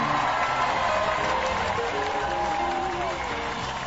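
The live studio audience of the call-in show Lawyers Who Need Them applauds and cheers loudly, a dense, steady wash of clapping with whoops and shouting voices mixed in, sustained for several seconds without letting up.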